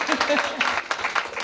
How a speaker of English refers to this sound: A round of applause, thank you.